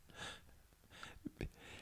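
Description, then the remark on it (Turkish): A few breathy, hissing breaths drawn in, with a sharp gasping inhale before a person imitates an alarm sound and a couple of quick soft thumps in between, no talking. “İşte önce nefes alarak şarkıya girmek bir şey.”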